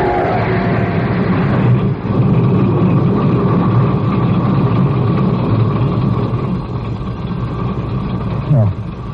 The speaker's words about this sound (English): The starter worked at last. I managed to back up.